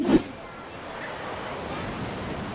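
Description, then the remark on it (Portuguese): Ocean waves wash steadily onto a beach at Florianópolis in a continuous, fairly loud roar of surf, with a brief bump of sound at the very start and no clear speech. “mira ese mar! ¡Está re lindo!”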